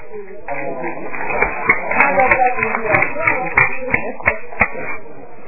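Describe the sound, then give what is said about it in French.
An audience at a public debate in a hall applauds over a steady murmur of crowd voices, with several sharp, distinct claps standing out from the dense, continuous clapping. “J'attends que monsieur tout le monde applaudisse, vous tenez tout seul à applaudir pour qu'on entende tout.”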